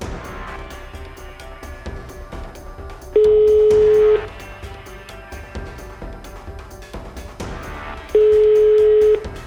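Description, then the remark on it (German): A phone line rings out with two steady, loud ringback tones, each about a second long and spaced several seconds apart, over a soft, busy musical background with no talking. “Jetzt schnell telefonieren!”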